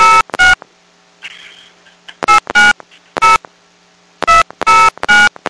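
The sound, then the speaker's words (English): Telephone keypad touch-tones dialing in quick bursts as a prepaid card number is entered for Sprint Prepaid Calling: two tones, a pause, three more, then another group of three, loud with faint rustling between presses. “Please re-enter your prepaid card number. I dialed the wrong number.”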